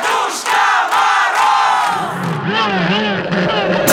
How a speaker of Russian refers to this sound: Ну а теперь все вместе давайте позовем Деда Мороза! Нет, нам надо кричать очень дружно! 3, 4! Еще! Слышу, слышу!